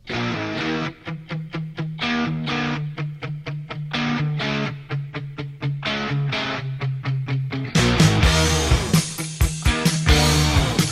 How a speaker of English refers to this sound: Okay, right off the bat, I'm noticing that I'm hearing two guitars. They're hard panned. I think some Gibson sounding guitar on the left. Definitely hear a Strat on the right. I like that a lot, actually.